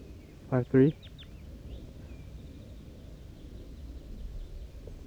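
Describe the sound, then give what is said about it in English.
Two loud, harsh calls in quick succession, followed by a few faint, high chirps from young caged birds over a steady low rumble. “And some of the juveniles in the cage, but not the wild bird yet.”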